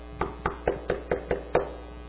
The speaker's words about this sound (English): Now, the knock come on the door.